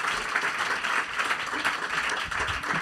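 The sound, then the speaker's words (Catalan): Audience applause fills the whole stretch, a steady, dense patter of many hands clapping at an even loudness, with no voices standing out above it. “Doncs sembla que algú d'aquí al públic t'hi portarà un aplaudiment.”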